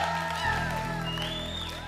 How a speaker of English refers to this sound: Yeah, give the Lord a big clap.